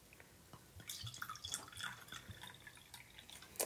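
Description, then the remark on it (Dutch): White wine poured into a glass, quiet, with soft gurgles, splashes and trickling drips over a few seconds and no voices. “Ja, Duitse en Oostenrijkse witte wijn vind ik de lekkerste witte wijn. ASMR.”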